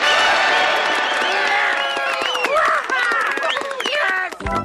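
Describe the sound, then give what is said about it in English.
A loud audience bursts into applause and cheering to vote on choices for a cartoon, with many excited voices shouting and whooping over steady clapping, sustained for several seconds before cutting off. “We'll give you three choices for each decision, and whichever choice gets the most applause is the one we'll do.”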